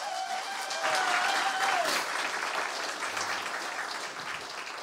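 Steady audience applause at a church baptism for a baptism candidate, a dense crackle of many hands clapping at an even, moderate loudness, with a faint high whistle near the start and no speech.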